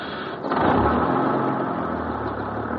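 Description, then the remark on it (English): A large bus engine rumbles steadily at idle, a low continuous drone that swells slightly after a brief uptick, then holds even with no voices. “Yeah, hey, I got to get this thing rolling. I'm behind schedule. Come on, folks, back on the bus.”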